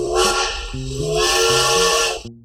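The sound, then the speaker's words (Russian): A steam train whistle blows one long, loud, chord-like note with a heavy breathy hiss of steam, holding steady for about two seconds before cutting off abruptly. “Чувствуете, да, как отзвуки железной дороги пронизывают всю нашу историю?”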